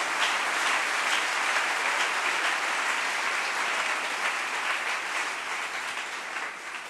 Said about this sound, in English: Clap for them. You are sitting down there. Pour eux.